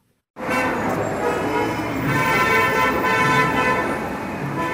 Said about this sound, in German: Und fast alle hupen, laut und viel. Aber es geht ihnen dabei nicht nur darum, andere Verkehrsteilnehmer vor Gefahren zu warnen.